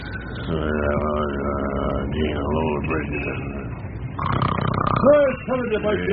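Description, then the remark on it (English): Deep, rumbling snores of a bear sleeping in a tent in City Park, with a drawn-out, groaning, voice-like quality, rising and falling over several seconds, set against a steady low hum of passing traffic. “Out in the park, you hear the traffic in the background and Papa Bear snore.”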